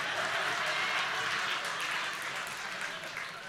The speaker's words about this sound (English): Now listen to me. I told you not to clap. Sit down.